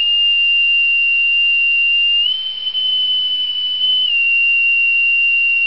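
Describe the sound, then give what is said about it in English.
A bosun's pipe sounds one long, shrill, steady note. Partway through it steps up slightly in pitch, holds there, then drops back to the original note. It plays alone, with no voices. “The pipe was used for the commands haul away and lower away.”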